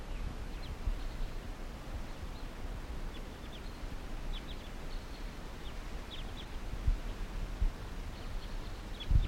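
Calls of several wild crossbills, type 2, at 8:37 a.m.: short, sharp, high chip notes scattered irregularly and fairly faint over a steady low background rumble.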